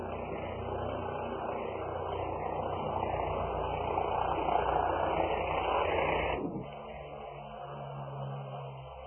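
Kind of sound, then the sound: vehicle, helicopter flying overhead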